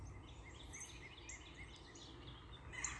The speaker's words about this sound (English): So when I get up at 5, by 5:30, the sun is already coming up. The birds are already starting to chirp at 5:15.